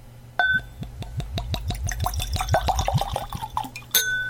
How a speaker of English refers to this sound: It's a nice, rich color. It's really, really dark. Very striking, yeah. You can tell this is not a scotch by looking at the bottle. Right. As we said moments ago, this looks like something out of a movie. Let's have a pour.